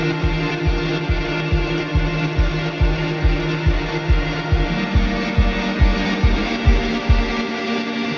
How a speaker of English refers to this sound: Oh, there it is. It's that soft little slipper of a four on the floor. It's like a little heartbeat.